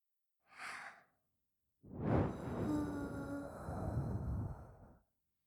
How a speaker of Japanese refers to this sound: 吐息の吹きかけは反則？そんなルールありません。私にキュッされるくらい平気なんでしょ？だったらこのくらいはしないとね。